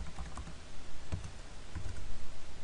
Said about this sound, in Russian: Дабл-клик. И второй раз дабл-клик на файле.